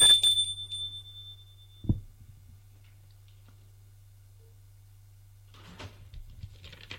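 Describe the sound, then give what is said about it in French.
A visitor carrying a bouquet of flowers rings a doorbell once at 12:30, its bright tone fading over about a second, followed by a soft thump and a low steady hum, then faint shuffling near the end. “À 12h30, il sonne chez Madame Roland avec un bouquet de fleurs.”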